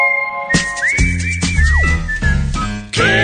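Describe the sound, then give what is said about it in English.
Radio hosts Kevin and Bean, two men, whistle a rock song melody, a loud tune with sliding and wavering pitches, carried over a busy, rhythmic backing for a few seconds. “Kevin and Bean, whistling the hits.”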